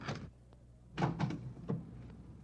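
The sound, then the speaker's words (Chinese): A door is opened by a gatekeeper: a short rattle at the start, then a cluster of heavy clunks and scraping a second later, and one final knock. No one speaks. “对不起啊，我马上开门啊。”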